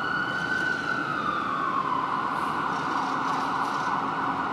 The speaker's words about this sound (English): That's an ambulance. The reason why I brought that up is I'm right here standing on the corner in Vancouver.